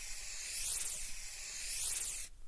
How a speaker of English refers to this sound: So give me the hairspray. Now, what you're going to want to do is you start the stream off before you start moving your hands. So when the stream hits your hair, it's already going full blast, like this.